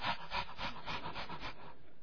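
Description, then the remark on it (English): A dog panting at a person's face as they lie in bed in a second-floor bedroom of a house, in quick, raspy breaths, about seven even pulses in a steady rhythm before trailing off. No one speaks. “That dog had never been on the first floor of that house, let alone the second floor”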